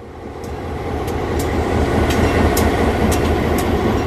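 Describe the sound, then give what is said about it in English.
A restored streamliner train at the North Carolina Transportation Museum in Spencer rolls steadily along the rails with a dense low rumble, rising slightly in loudness, while faint rhythmic clicks of wheels over track joints repeat about every half second. No one speaks. “26 of these restored streamliners were on display this weekend at North Carolina Transportation Museum in Spencer.”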